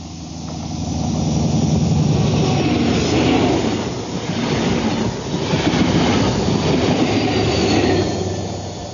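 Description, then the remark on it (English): A 400-ton high-speed electric train of gleaming steel roars past at 125 miles an hour, a steady, loud rushing noise with rumbling low tones and a faint rhythmic rattle of wheels that holds for the whole clip, with no voices. “400 tons of gleaming high technology, all electronics, flashing steel, power pounding past at 125 miles an hour.”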